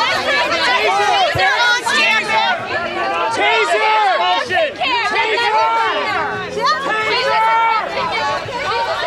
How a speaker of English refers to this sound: When people began yelling at the woman to stop, chaos broke out.